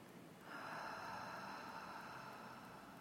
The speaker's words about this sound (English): Breathe in through your nose and out through your mouth.